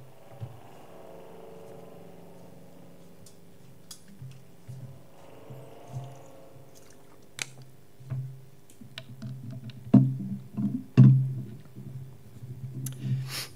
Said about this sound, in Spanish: Voy a beber un poquito de agua, disculpadme.